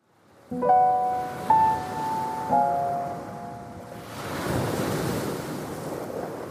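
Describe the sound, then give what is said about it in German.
Three bright, ringing musical tones sound in turn and fade, then a steady broad wash of Pacific Ocean waves and wind, in the open sea between Australia and South America, rises and fills the rest, with no voices. “Mitten im Pazifischen Ozean. Im riesigen, leeren Meer zwischen Australien und Südamerika liegt eine kleine Insel.”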